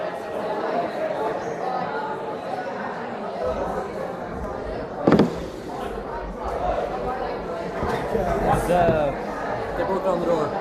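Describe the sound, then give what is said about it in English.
A crowd chatters and murmurs steadily, then a single loud, sharp bang of people banging on a door cuts through about halfway, before the busy babble carries on. “They broke down the door.”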